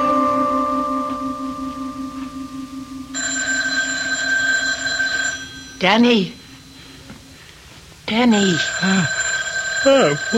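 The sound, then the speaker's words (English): A telephone rings steadily with a bright electronic trill at 3:30 in the morning, continuing under a woman's voice calling out twice and some talk, fairly loud throughout. “The phone, it's ringing.”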